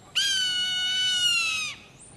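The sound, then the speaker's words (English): A soaring Swainson's hawk gives one long, shrill scream that holds steady and drops slightly in pitch at the end. It is loud, with no other sounds around it. “A soaring Swainson's hawk.”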